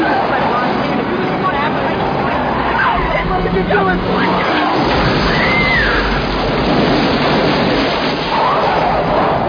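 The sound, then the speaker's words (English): A car engine rumbles loudly and steadily as the vehicle pulls away, with a dense wash of road and wind noise throughout and faint, indistinct voices underneath. “Start the car!”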